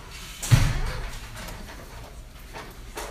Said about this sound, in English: Is the door open back there? Can you close the door back there? Sorry. Okay.